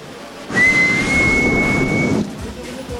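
A single sustained referee's whistle blast starting a sumo wrestling match, steady and shrill, lasting about a second and a half over a burst of crowd noise, then cutting off.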